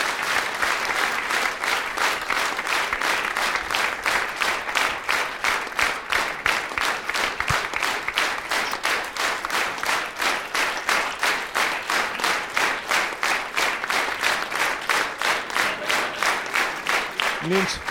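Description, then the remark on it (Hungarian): An audience applauds steadily and loudly throughout at a diamond record presentation marking 5 million records sold, the claps settling into a fairly even rhythmic beat in places, with a faint murmur beneath. “Nincs mivel tapsolnom, holott én is szívesen tapsolnék, de ezért gyorsan átadom.”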